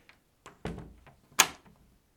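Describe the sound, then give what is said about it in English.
A door being locked: a few soft mechanical clicks and thunks, then one sharp metallic clack as the bolt catches, with no one speaking. “Okay, can you lock the door?”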